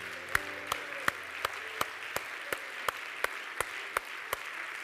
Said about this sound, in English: They're like a tree planted by a water, and they're going to stay. Hallelujah. So clap your hands for these people.